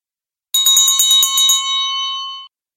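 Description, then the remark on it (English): The bell of the Simbeu, the herdsman who brings back the bulls at the end of a Camargue run, clangs in a quick burst of about seven strikes at the pond of Vacares in the Camargue, then rings on with a bright, sustained tone that fades out. Fairly loud, with no voices. “When they got to the pond of Vacares, where big pink flamingos lived, they heard a bell ringing. Oh, listen, that's the Simbeu's bell.”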